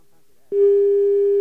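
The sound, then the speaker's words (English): After a brief quiet moment, a steady telephone line tone switches on abruptly while a number is being dialed, holding at an even, unbroken pitch, loud, as if heard through a handset. “Okay, sometimes it asks for a special code because our BAI phone system kicks in, so I'm going to put that in.”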